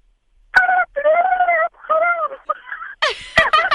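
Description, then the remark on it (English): A caller to the Joe and Alex show imitates a turkey gobble: a run of loud, warbling, strained vocal bursts that wobble in pitch, ending in a quicker, higher-pitched rattling flurry. “Go ahead and let's hear your gobble, please.”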